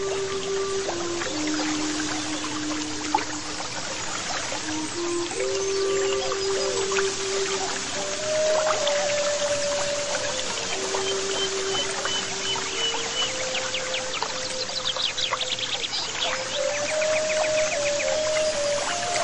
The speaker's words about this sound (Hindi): मैं देख रहा हूं गुफा के ऊपरी हिस्से से एक अलौकिक झरना बह रहा है।